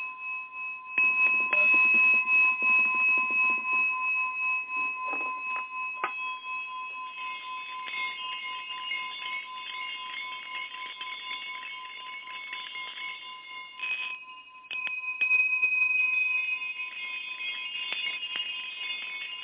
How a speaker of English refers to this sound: Interesting that I just pull all these bells and high sounds out, where normally I don't do that,